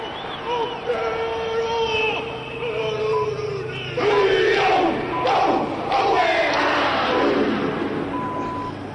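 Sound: stadium crowd shouting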